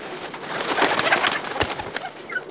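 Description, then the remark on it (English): Hens cluck and murmur together in a village hen house, a busy chorus, a steady jumble of short clucks and soft calls that fills the space without pause. “Rad and his troops search the village thoroughly, even down to the hen houses.”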